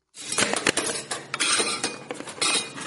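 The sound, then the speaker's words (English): Dishes and cutlery clatter and clink continuously, with irregular knocks and scraping of plates and pots, as a woman washes and stacks the dishes at her small restaurant in the Gandaresa refugee camp in Mabon County after serving dozens of customers; no voices are heard. “washes the dishes at her restaurant at the Gandaresa refugee camp in Mabon after serving dozens of customers.”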